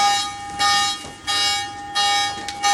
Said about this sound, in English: And then that's when, like, an alarm goes off, a siren.